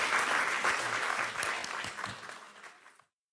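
Audience applause, a dense crackle of many hands clapping that holds steady at first, then gradually thins and fades out before stopping abruptly. No one speaks over it.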